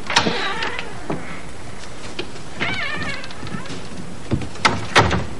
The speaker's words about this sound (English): Now open the door.